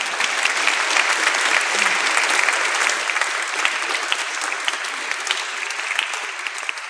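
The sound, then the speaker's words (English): Steady, dense applause from a crowd at a live music event, applauding the event's advertisers and sponsors: many hands clapping in a continuous loud wash that holds for several seconds before easing off slightly at the end. “So please, a round of applause for our advertisers and our sponsors.”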